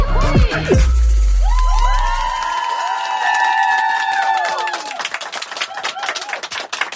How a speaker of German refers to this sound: Ja, wenn es Jubelschreie gibt, ihr könnt ruhig weitermachen, nur weil ich rede. Nochmal. Ja, wenn es Jubelschreie gibt hier live auf Radio FM Quattro, dann heißt das, dass Leute hier sitzen im Sendestudio und bei der FM4 Stand-Up-Bühne heute dabei